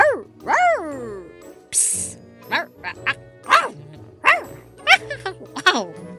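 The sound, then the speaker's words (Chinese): A voice imitates a small yellow dog, Duoduo, sneezing over and over after perfume is sprayed, a quick run of sharp, yelping sneezes, broken once by a brief hissing burst. “小黄狗多多似乎对于突如其来的香味不太习惯，连忙的打喷嚏。”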